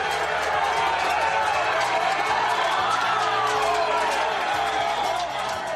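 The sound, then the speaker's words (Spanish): A large, dense crowd of about a hundred residents protesting in front of the town hall of Don Benito, shouting and clamoring continuously, with sharp metallic clatter of banged pots mixed into the din; loud and unbroken throughout. “De hecho, un centenar de ellos se concentraron frente a las puertas del Ayuntamiento de Don Benito para demostrar su descontento entre caceroladas y gritos.”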